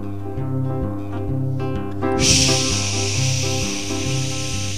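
Music with a steady bass line plays, then about halfway through a loud, continuous hiss of shower water, running hot and cold, bursts in and keeps running over the music until the end.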